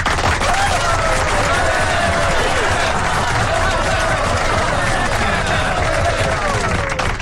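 Steady, dense applause from a large crowd fills the whole stretch at an even, loud level, with indistinct voices and cheering mixed into the clapping.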